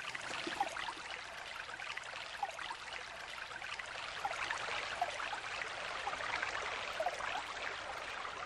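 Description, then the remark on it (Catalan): A shallow stream trickles and babbles steadily over stones, a continuous bright watery wash with small gurgles, moderately quiet, with no voices. It is the Siurana river, a tributary of the Ebro about 50 kilometres long, running low and carrying little water at this time of year. “No porta gaire aigua, aquest riu.”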